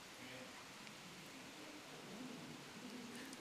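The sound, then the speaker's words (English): Steady, even rain hisses outside, a continuous wash of soft noise with no distinct drops, while faint, muffled voices murmur underneath. “I mean, just like, cue the rain.”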